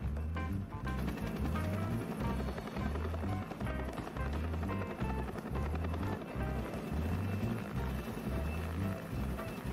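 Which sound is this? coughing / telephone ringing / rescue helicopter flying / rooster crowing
rescue helicopter flying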